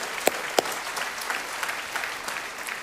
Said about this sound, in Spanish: Amén y amén, bendito Dios. Que nos aplaudimos todos juntos.